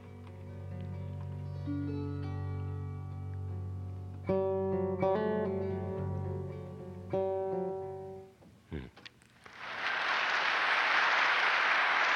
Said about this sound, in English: I think I hear you clapping. Yeah, that's me.